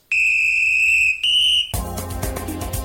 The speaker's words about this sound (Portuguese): Muito bem, apito soou